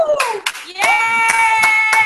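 Scattered, sharp claps from a small audience ring out at an uneven pace, accompanied by a sustained, high-pitched cheering voice that rises and holds above the clapping.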